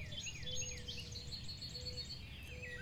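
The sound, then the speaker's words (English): Several small songbirds chirp and trill in quick overlapping phrases from the leafy branches of a tree, fairly faint, over a steady low outdoor rumble with no one talking. “Little songbirds inhabit the branches of the tree, and you begin to hear that sweet chirping resonating out from the thick tufts of leaves.”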